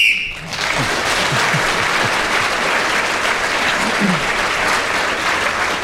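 A short, sharp whistle blast sounds at the very start, marking the end of a round, quickly swallowed by loud, sustained applause from an audience, with a few faint voices in the crowd.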